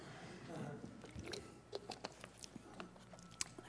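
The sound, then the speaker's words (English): Someone takes a refreshing sip of spring water, with quiet wet mouth clicks and small gulping sounds scattered over a few seconds, no talking. “Now, let me give you a few examples after I take a refreshing sip of spring water.”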